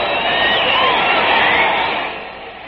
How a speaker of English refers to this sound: What a day this is for Jim Bunning. Listen to that crowd.